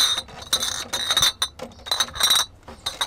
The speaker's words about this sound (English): Like in the US, the glass milk bottle used to be dominant here. In 1975, 94% of British milk arrived with the clink of glass bottles on the doorstep.